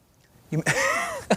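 A person coughs, a rough burst followed by a strained, voiced throat-clearing sound, then one more short cough at the end.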